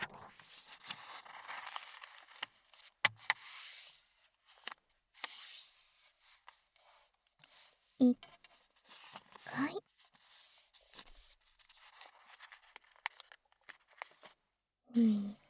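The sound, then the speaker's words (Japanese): Square origami paper being folded into a triangle twice, with soft rustling, sliding and crisp creasing sounds coming in irregular bursts over a quiet background. “まず最初は四角い折り紙を三角に2回折ってください。”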